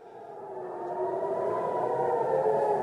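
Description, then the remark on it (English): An air raid siren in Israel wails in a steady, sustained tone, swelling slightly louder over a few seconds, heard alone with no voices and a faint hiss around it. “Israeli parents tended their children amid the wail of air raid sirens and inside bomb shelters.”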